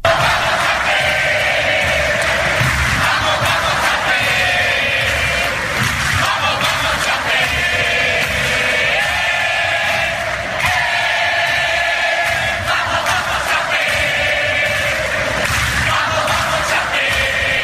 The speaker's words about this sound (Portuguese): Uma delas entoou por minutos um sonoro grito de torcida, que era o grito de torcida que a torcida fazia lá na Arena Condá, nos jogos da Chape, que é o E Vamos, Vamos, Chape.